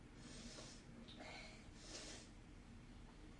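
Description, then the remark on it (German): Two wet, hissing sniffs, someone drawing a runny nose back up, with a brief pause between them and no talking. “willst du dir nicht vielleicht mal die Nase putzen? Nein. Das lieber hochziehen?”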